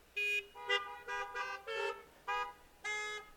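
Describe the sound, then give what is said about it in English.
Several car horns honk in a quick, overlapping series of short and longer blasts, loud, with brief gaps between them and no talking. “Give me a honk if you've ever done something and you knew it was God, good, you knew it was good, God wanted to you to do, and it felt great.”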